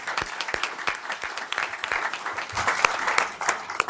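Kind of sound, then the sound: crowd, audience applause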